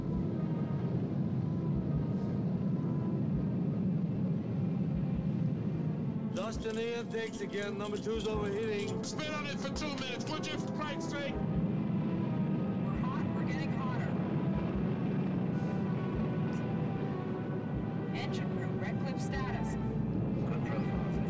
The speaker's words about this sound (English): So they're going back up to the mothership. As you can probably hear, it's very, very loud right now. As they launch.